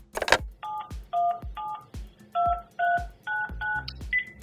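A rapid series of about ten touch-tone phone dialing beeps, each short and clear, with sharp clicks between them as buttons are pressed, with no talking.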